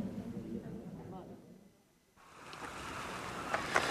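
A boat moving across the water on the way to a cove: a low, steady rumble fades briefly, then a broad rushing wash of water swells up and continues, moderately loud.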